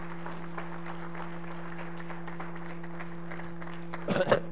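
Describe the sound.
An audience claps their hands in praise of the Lord in a steady, dense patter of applause over a constant low electrical hum, swelling into a louder burst of clapping and voices just before the end.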